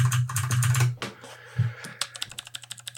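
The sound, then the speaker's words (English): Loud, clattery typing on a noisy computer keyboard, a rapid burst of keystrokes followed by a slower series of sharp, distinct clicks, with no voices. “I can't believe he's proud of his noisy keyboard now.”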